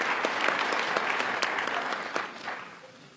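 An audience claps steadily for award recipients at an ALA council session, a dense patter of many hands that gradually thins and fades toward the end. No voices are heard.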